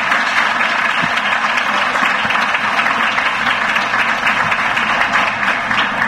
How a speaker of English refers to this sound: So I do want to give a round of applause to them.